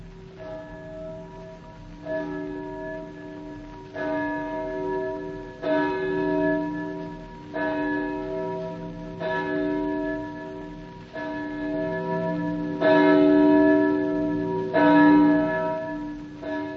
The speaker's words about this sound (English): And therefore, never seek to know for whom the bell tolls. It tolls for thee.